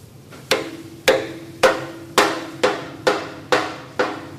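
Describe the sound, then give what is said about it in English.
Eight firm, evenly paced hammer blows as a brewer drives home a wooden shive into a cask just filled with 72 pints of real ale, each knock loud with a short hollow ring fading before the next strike. No one speaks. “When the cask is full, out comes the racking cock, and then he hammers home the shive.”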